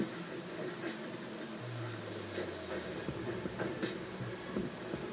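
A train rumbles steadily across the Gödik Viaduct, a railroad bridge in Myanmar opened in 1900, 250 meters high and over 600 meters long. There is a low droning hum, a hissing wind-like noise and scattered metallic clacks and thumps from the wheels, continuous throughout.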